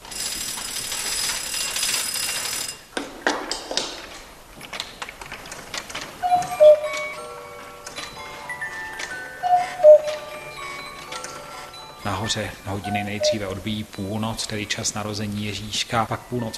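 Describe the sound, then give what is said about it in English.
A single weight-driven clockwork mechanism moving the 142 figures of a mechanical nativity scene ticks and ratchets steadily, with bright chiming tones ringing out in the middle, and a voice begins talking over the mechanical clatter near the end. “All the movements are managed by one single mechanism, which is operated by one weight.”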